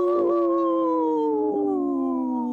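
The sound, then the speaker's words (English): A person imitates a wolf howl with one long, loud, sustained voiced note that holds steady and then slowly sinks in pitch, with no talking alongside it, while trying to howl and say no at the same time. “I was gonna trying to howl and say no at the same time.”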